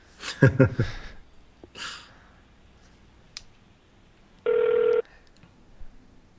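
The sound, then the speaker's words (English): A single steady ringback tone sounds from a phone line as an outgoing call to a cell phone connects, preceded by some clicks, handling noise and a faint breath. “Okay, it's calling him.”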